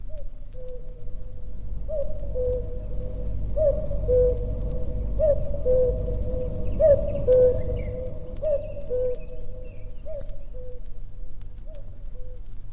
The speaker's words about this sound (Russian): Ваша хорошая знакомая, кукушка, решила послать привет африканским сестрам. Она желает им не меньше 100 лет жизни.